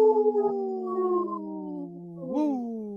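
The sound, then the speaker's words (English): A voice imitates a wolf howl on Native Roots Radio: one long, sustained wavering tone that slowly slides downward, then swoops up again near the end. It is fairly loud, with no other sounds. “Howl! Howl! Woo!”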